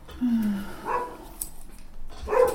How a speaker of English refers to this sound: Bessie! Stop barking!